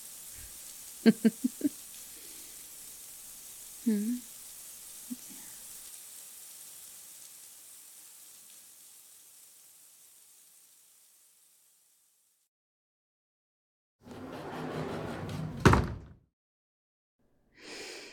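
shower water running

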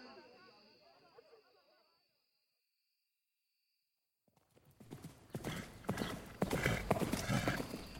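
horse hooves clip-clopping

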